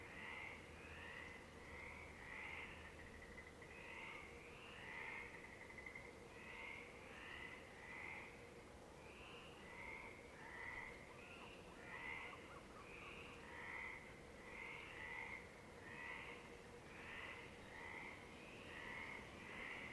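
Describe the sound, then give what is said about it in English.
A dense chorus of frogs croaking continuously at 1 a.m. in Monte Rosso, Italy, a village above the ocean, many overlapping rhythmic calls pulsing steadily for the whole stretch over a low ambient hum, with no talking. “A village perched above the ocean is gifted with songs of frogs.”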